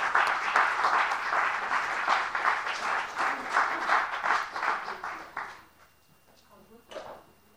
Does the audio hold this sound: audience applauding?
yes